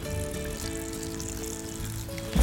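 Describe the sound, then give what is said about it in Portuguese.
Filtered water pours steadily into a deep bowl of dry bulgur wheat (triguilho) for a couple of seconds, a continuous soft splashing rush with a faint ringing tone, ending in a brief low knock. “Vamos colocar essa água aqui, ó.”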